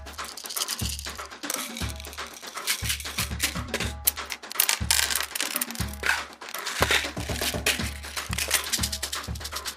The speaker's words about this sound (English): Pills by Jeremy S. Bloom is all the pill sounds you'll ever need, including bottles, tabs, gels, nasal spray, spills, rattles, rolls, and much more.